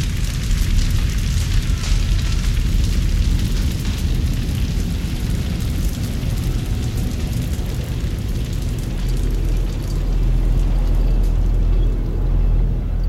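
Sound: explosion rumble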